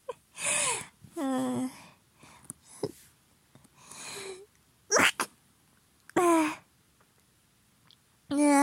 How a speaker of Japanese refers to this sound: ごめんなさい。くしゃみをしてしまった。